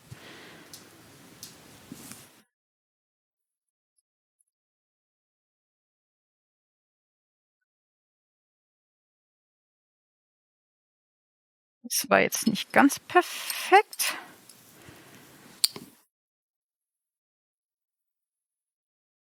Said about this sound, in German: Dann soll ich 60 ml kaltes Wasser in dieser Raketenbecher kippen.